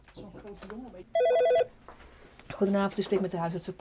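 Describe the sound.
A telephone rings once in a loud, warbling electronic trill of rapid high pulses lasting about half a second, with voices talking before and after it, at an after-hours clinic in a low-income neighborhood of Amsterdam, the Netherlands, in the early evening around 6 o'clock.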